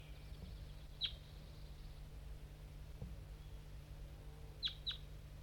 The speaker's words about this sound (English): There's a wild crossbill around somewhere. Maybe not the same one I just heard before. This one's coming from the bottom of the hollow.